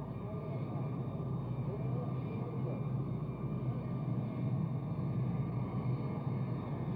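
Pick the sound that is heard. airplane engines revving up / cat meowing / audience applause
airplane engines revving up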